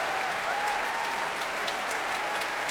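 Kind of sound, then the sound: crowd, concert audience applause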